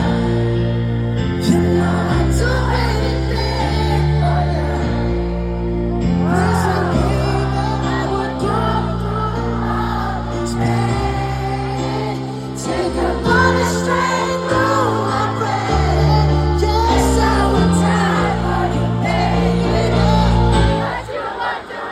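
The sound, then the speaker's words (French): Thousands of people in a large concert crowd sing the lyrics along in chorus over loud live music as a medley of the performer's best old songs begins, the many voices blending into a sustained, swelling wall of melody that holds steady for the whole stretch. “Dès les premières notes, les milliers de personnes présentes entonnent les paroles en chœur.”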